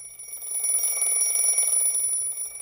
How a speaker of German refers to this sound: Stern auf 5, immer am Samstag der blöde alte Wecker. Zum Glück hat es Mama nicht gehört und ist nicht aufgewacht.